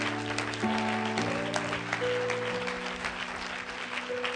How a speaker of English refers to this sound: Somebody clap your hands and rejoice.